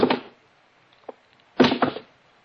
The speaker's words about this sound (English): By this time, the house was so quiet, it was noisy. First thing I did was take off the shoes and drop them one by one on the floor.